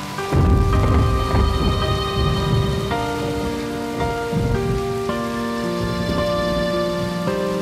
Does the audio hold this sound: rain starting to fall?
yes